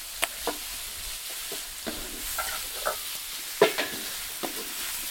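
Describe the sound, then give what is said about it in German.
Lamb meat sizzles in a hot pan over an open fire with a steady crackling hiss, broken by irregular sharp clinks and scrapes of a utensil stirring. No one speaks. “So, jetzt gibt es das Fleisch hier dazu. Das Lamm dazu.”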